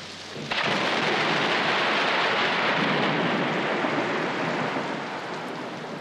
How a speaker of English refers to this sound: Was the storm exciting or frightening?